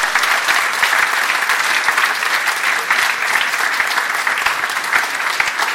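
Sustained applause from an audience fills the whole stretch, a dense, even patter of many hands clapping at steady loudness with no one speaking over it.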